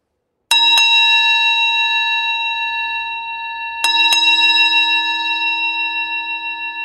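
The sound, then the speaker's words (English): A bell rings loudly and close by, struck twice in quick succession, then twice again a few seconds later, each pair leaving a bright, shimmering tone that rings on and slowly fades. “She heard the bell, and it was near.”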